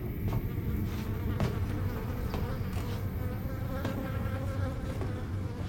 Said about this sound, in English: Approaching Eric's door, Will looks down at a bag of trash with flies hovering around it.